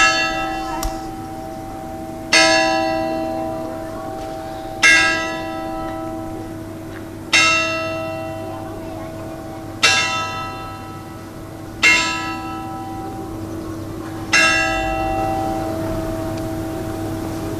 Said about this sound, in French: Le clocher de l'église du petit village de Sauzon.